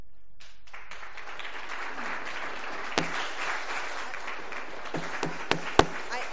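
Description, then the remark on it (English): An audience at a council meeting claps after a public speaker finishes, a dense steady patter of many hands that starts abruptly and carries on for several seconds, with a few sharper, louder individual claps standing out near the end. No one speaks. “I know that most of you are here for the first time, but we have rules and procedures, so there's no clapping after public speaking.”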